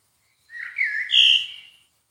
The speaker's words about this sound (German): Oh, ein Vogel hier. Oh.